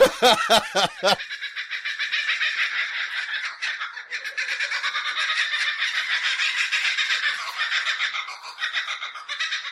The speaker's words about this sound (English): When we hear the kookaburra. Both me and … went, kookaburra!